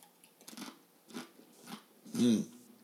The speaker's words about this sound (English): I'll stop chewing. I'll swallow this. Then I'll stop, because that was loud to me.